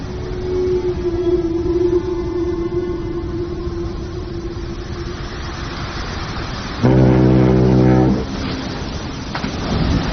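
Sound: whale song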